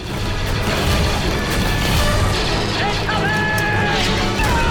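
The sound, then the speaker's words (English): Long-barreled cannons blast repeatedly in a dense, roaring battle din, loud and continuous, with deep booms layered under rising mechanical whines and crashes. “On Obi-Wan's instruction, long-barreled Republic cannons open fire.”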